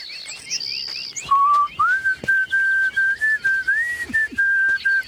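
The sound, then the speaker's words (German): A man whistles a tune while walking through a forest on a sunny day, a steady sustained melody with slight pitch bends, clear, while birds chirp faintly in the background. “Du kannst den schön pfeifen.”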